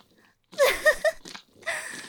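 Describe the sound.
A human voice imitates a dog's barking, with several short, loud, yelping barks in quick succession followed by a longer, rougher howl-like burst.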